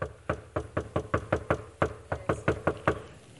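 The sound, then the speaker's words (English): A rapid series of about a dozen sharp knocks by hand on a hollow surface, fairly evenly spaced and resonant, moderately loud with no talking. “Because there's somebody listening, and it's just like a drum. They hear it. You hear that? Hollow. Hear that? Hurt my hand. Hollow.”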